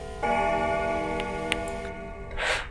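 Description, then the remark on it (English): A single deep chime rings out from a huge grandfather clock striking 1 a.m. at the bottom of the house, its rich tone hanging and slowly fading over about two seconds, with faint ticking beneath and a soft breath at the end. “you hear from the base, the bottom of the house, the huge grandfather clock strike 1 a.m.”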